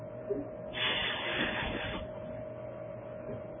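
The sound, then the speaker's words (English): A grogger ratchet noisemaker, spun whenever the name Haman is said, spins in a single burst of dense, rapid rattling clatter lasting just over a second, set against a steady low electrical hum. “So anytime we would say the word Haman, they would make this noise with a ratchet, then they hiss.”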